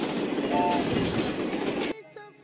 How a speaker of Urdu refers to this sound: Train آگے بڑھتی ہوئی.